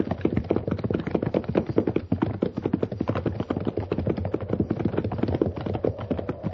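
Horse hooves clip-clop in a quick, steady stream of sharp taps, moderately loud, with no one speaking.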